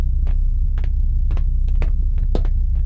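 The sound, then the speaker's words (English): A steady, heavy low-frequency rumbling hum fills the space continuously, with faint scattered clicks and ticks rising over it at irregular intervals. “We could also hear a slight rumbling, which made everything more ominous.”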